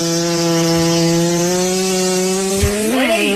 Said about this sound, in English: And don't fart that loud in class. They will make fun of you for the next 4 years. Or own it.